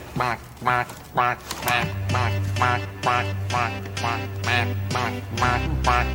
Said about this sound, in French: Il sort un canard d'un panier qui fait coin-coin, etc.